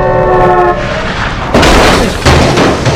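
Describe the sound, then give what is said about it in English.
A car horn blares in a steady, sustained tone, then cuts off as a loud crunching crash erupts when a stolen sedan swerves from an oncoming car and crashes, followed by a second heavy impact about a second later. “The thief swerves from an oncoming car and crashes.”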